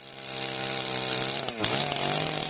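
A chainsaw engine roars steadily at high revs while cutting in a forest at Istočni Drvar on Klekovača mountain, Bosnia and Herzegovina, its pitch sagging briefly midway as it bites into wood before climbing again. Loud and continuous, with no voices.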